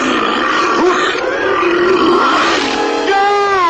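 A tiger growls loudly and steadily, a rough, continuous rumble that rises and falls in pitch for several seconds, with no one speaking.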